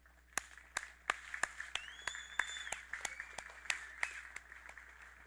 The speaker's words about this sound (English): Well, happy Mother's Day to everybody. If you are a mother, would you please stand so we can give you a big round of applause?